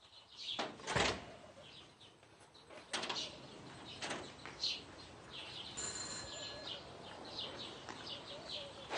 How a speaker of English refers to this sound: I'll get it, though. No, I'll open the door myself.